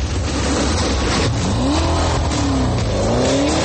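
A sports car engine revs hard and loud, its pitch sweeping up and down in smooth surges over a constant low roar, with no voices.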